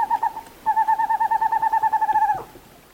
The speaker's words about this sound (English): The western screech owl, a small owl about 8 inches high of western forests.